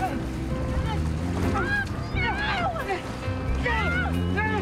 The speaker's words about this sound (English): Bob's leapt into the water and is trying to stop the RV from sinking.